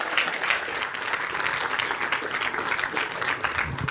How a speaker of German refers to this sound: Und ich würde sagen, großen Applaus und viel Spaß mit dem Vortrag.